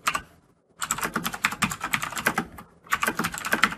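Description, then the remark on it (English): Rapid typing on a computer keyboard, clear, in two bursts of quick clicking keystrokes separated by short pauses, with no one speaking. “So let me comment out everything I have here.”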